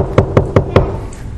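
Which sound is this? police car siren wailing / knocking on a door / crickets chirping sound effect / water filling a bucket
knocking on a door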